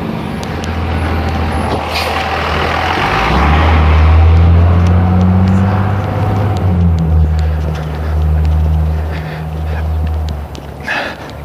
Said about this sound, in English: School bus coming.